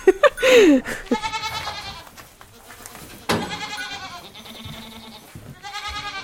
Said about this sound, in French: La chèvre alpine, c'est une chèvre qui est rustique, adaptée au milieu montagnard. Elles sont hyper réactives parce que je les soigne en homéopathie, en acupuncture, en phytothérapie, en huile essentielle et en magnétisme.